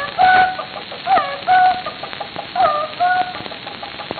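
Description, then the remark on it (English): Several hens cluck in short, repeated bursts as they flock round a rooster at dawn, overlapping calls rising and falling with farmyard chatter in the background and no one speaking. “The hens flock round to greet their lord and master.”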